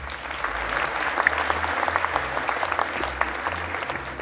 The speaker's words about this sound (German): Sehr gut. Einen großen Applaus.